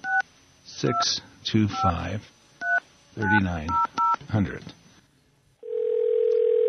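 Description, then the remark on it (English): Touch-tone keypad beeps as the phone number of the Garagos and Garagos law offices in Los Angeles is dialed, short two-note tones scattered between bursts of a person talking, followed by a steady, unbroken low line tone at the end. “Maybe we could try calling.”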